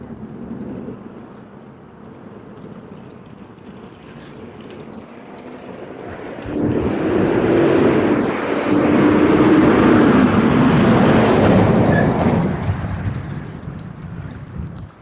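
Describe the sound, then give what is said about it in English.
A truck passes, its engine rumble swelling suddenly to a loud, steady roar with a low droning tone before easing off toward the end. Faint background noise underneath, no voices. “Truck.”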